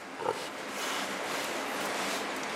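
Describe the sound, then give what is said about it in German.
A single short pig grunt near the start, then a steady, even wash of noise fills the rest, the hum and hiss inside the experimental pig facility of a farm-animal biology research institute in Dummersdorf near Rostock. No one speaks. “Dummersdorf bei Rostock, Forschungsinstitut für die Biologie landwirtschaftlicher Nutztiere, Experimentalanlage Schwein.”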